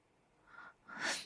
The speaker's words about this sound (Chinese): 等等，你在咳嗽？你不会是生病了吧？